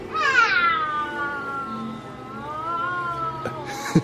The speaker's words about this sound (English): Yeah. The cat.